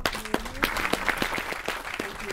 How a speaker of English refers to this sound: Ladies and gentlemen, let's have a big round of applause for Rosemary.